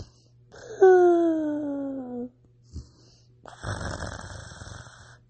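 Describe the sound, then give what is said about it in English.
A voice mimics a purring snore: a drawn-out, falling, rumbly tone, a short pause and a small catch, then a longer raspy, throaty snoring breath. “And the dragon's words trailed off as he began fake sleeping again, making a purring sort of snoring sound.”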